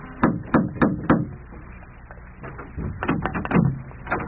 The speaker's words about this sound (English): Safe now to knock.